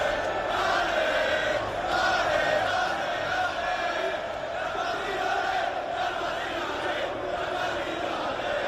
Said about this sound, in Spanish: Que podía haber miles de aficionados rodeando el autobús del Real Madrid. Por delante la policía a caballo, la policía en motos, las sirenas, la noche que iba cayendo y la gente completamente entregada.